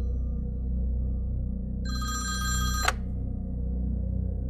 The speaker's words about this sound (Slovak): Predo mnou bolo čierne telefónne slúchadlo zavesené v držiaku. Telefón začal zvoniť, čím prerušil mŕtve ticho.